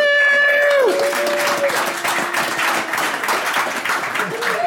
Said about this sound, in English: Now, that's very kind, but we haven't actually done anything. I don't know why they're applauding before instead of after.